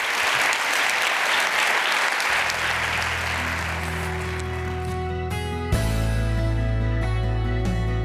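A large audience at a Columbia International University chapel service claps loudly for Dr. Smith in a dense, steady wave of applause that gradually fades as sustained music swells and takes over.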